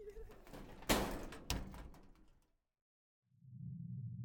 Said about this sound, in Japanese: 何階まで向かわれますか？はい、かしこまりました。ではドアをお閉めします。